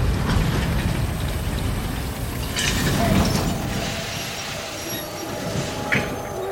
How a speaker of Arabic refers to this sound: وصل القطار إلى مدينة ديجون بعد منتصف الليل بقليل.